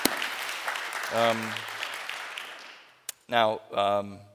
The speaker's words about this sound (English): You can clap. Come on, y'all.